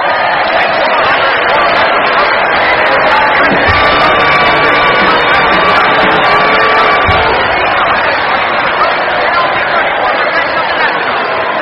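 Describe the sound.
A capacity crowd at the Dayton Fairgrounds cheers loudly and steadily as challenger James M. Cox concedes the presidential election: a dense wash of voices with shouts and whoops rising out of it, sustained at a constant high level throughout.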